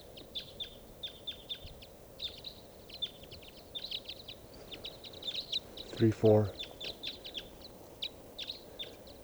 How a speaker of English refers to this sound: Start recording. I think there's a type 5 bird here.